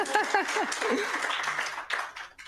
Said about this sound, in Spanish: Y un aplauso para ustedes mismos.